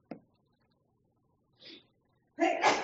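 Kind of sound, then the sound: human body sound, sneeze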